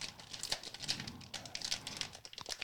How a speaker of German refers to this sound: Ja, so macht man in... auf den Philippinen die Tüte auf. Gut. Zack, offen.